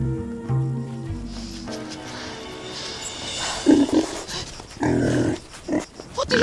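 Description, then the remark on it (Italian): Several low, rough grunts and snorts from wild boars in a nature reserve, coming in uneven bursts, with some background noise and a brief human voice mixed in. “Oddio, ci stanno pure i maiali! Ma no, sono cinghiali!”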